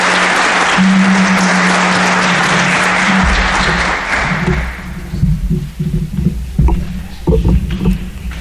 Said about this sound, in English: So please help me give our panelists another round of applause.